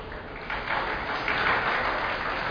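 audience applause

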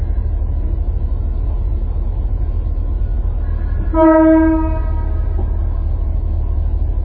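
passing train with horn

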